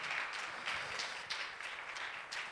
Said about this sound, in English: One more time, I want to give them a round of applause. Such a wonderful group of men, fathers.